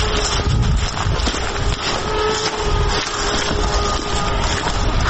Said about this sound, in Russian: Пока шли, уже слышали, как пролетели 2 дрона. Что это за дроны, чьи дроны, непонятно. Но местные жители предупреждают, чтобы были очень осторожными по этому поводу. Опять слышно, как гудит дрон.